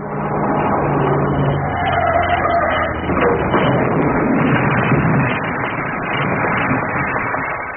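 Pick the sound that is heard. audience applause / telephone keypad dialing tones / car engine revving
car engine revving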